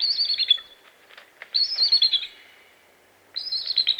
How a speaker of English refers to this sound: Look high into the top branches of a tall tree, and you may see the source of this call, a bald eagle.